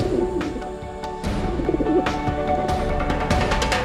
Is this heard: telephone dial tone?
no